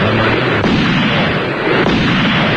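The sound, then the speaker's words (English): Loud gunfire that kills a bird: two sharp, cracking shots stand out about a second apart against a dense, continuous roar of rumbling noise, with no voices. “You killed the bird when he wasn't even saying anything.”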